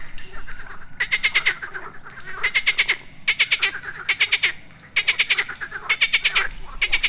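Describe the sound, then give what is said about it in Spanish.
A chorus of frogs, green, brown and some blue or red, croaking on the surface above a cave in repeated pulsing bursts, several calls overlapping in a steady rhythm, loud, with no voices. “Y arriba, en la superficie, las ranas están por todas partes.”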